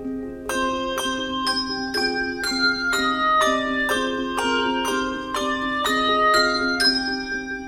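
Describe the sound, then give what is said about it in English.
A bell ensemble plays a slow, exposed melody, one ringing note at a time at a steady pace, each strike bright and overlapping the lingering ring of the last, with no voices. “And that exposed single line is a really challenging skill for an ensemble to achieve in order to have all of those notes ringing musically and together with the same dynamic or sense of line as it's moving.”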